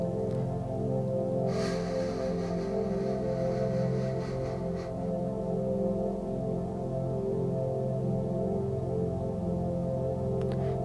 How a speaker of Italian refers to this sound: Tratteniamo il respiro per 3 secondi, 2, e poi espiriamo con il naso lentamente, emanando questo suono.